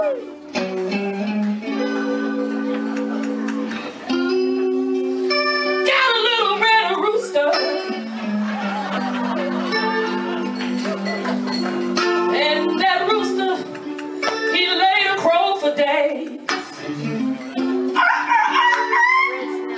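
A live blues song performed on the Windy City Blues Society stage during a Blues Festival weekend, with a steady low backing and high, sliding wails that sound like a rooster's crow, played loud and continuous throughout.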